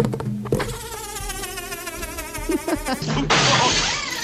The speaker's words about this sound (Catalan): Clar, en aquella època no hi havia cap maquineta que creés amb un sintetitzador un so, i s'havien d'inventar coses d'aquestes. Amb un globus, això, eh? Amb un globus.